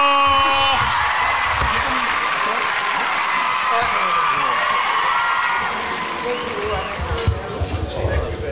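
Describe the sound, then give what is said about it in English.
A crowd claps and cheers for a couple in a steady, dense wash of applause mixed with shouts and whoops, easing slightly toward the end while voices chatter underneath. “Round of applause for our couple today.”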